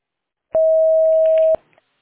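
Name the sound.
voicemail recording tone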